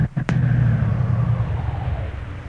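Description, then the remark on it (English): A car engine rumbles steadily on a bad road, with a sharp jolt early on as the vehicle hits a bump, then the low drone continues and slowly eases off. “Hang on. This road's pretty bad.”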